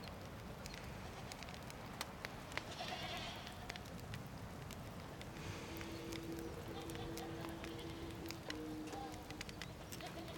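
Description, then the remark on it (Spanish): Goats bleat now and then over a steady outdoor rustle, with one drawn-out bleat in the second half and scattered small clicks and knocks from a moving herd. “Dos hembras y dos machos, y no necesitan más. Siempre van a querer más. No importa cuántas cabras les dé.”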